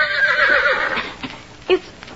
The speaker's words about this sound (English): But today, as he entered between the rocks, he heard a different sound. It was the whinny of a horse.